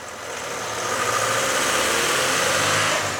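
A car engine idles with a steady rumbling drone and a constant hiss, holding an even level throughout with no voices present.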